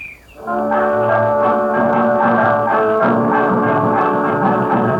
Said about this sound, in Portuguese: Terminada a exposição da cantiga, soa novamente o apito que dá início ao ritmo sob o qual entrará logo após o coro.